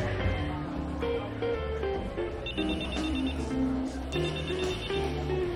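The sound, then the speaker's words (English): A telephone rings in two short trilling bursts, clearly audible over a bed of steady background music. “She picks up a phone. Hello?”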